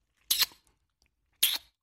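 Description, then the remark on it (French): Two short, bright lip-smacking kiss sounds made during a speech therapy session, about a second apart, each a quick crisp burst with a hissy, high-pitched edge, separated by near silence. “L'orthophoniste essaye aussi de lui faire faire le bruit du baiser avec ses lèvres.”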